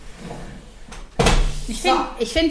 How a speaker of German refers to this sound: ich glaube, ich mache mal die Tür zu.